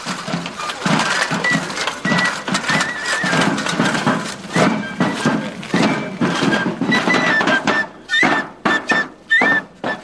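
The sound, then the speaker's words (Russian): Busy clattering hoofbeats of two horses thud and clop steadily, fairly loud, with brief high whinnying cries rising toward the end. No one speaks. “Значит, здесь две лошади, да? Да, две лошади.”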